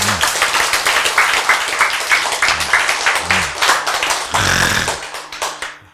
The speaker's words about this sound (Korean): 차, 이때 박수 한번 치셔야지.